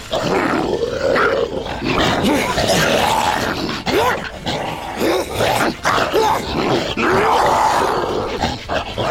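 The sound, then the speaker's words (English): A beast and Scarlet snarl and growl at each other in a loud, continuous fight, slashing and biting, with rising roars, grunts and sharp yelps. “The beast and Scarlet growl at one another, then fight, slash, and bite.”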